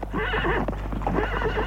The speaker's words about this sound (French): Le cheval, fougueux, en passant devant lui, frôlé et fait tomber.